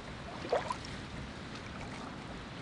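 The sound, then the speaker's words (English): Boats on the water produce a steady, broad wash of noise, with a brief higher chirp near the start. It is continuous and moderately loud, with no voices. “As I look at these boats passing by, I think maybe it could be that easy to just leave everything on the shoreline and go off on an adventure.”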